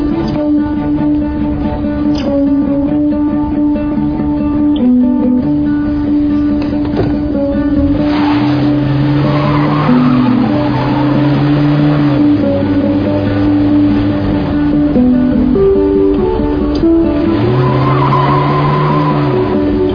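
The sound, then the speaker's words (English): A car engine hums steadily as the car is being parked, maneuvering into place, with tires squealing and skidding in a few drawn-out bursts. No one speaks. “I'm gonna park the car and then I'll come in and meet you.”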